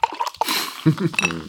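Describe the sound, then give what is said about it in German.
A brief fizzing hiss of Mezzomix being poured into a glass with lemon in it, with small liquid clinks, quickly followed by people talking. “Hier, lass mal zischen.”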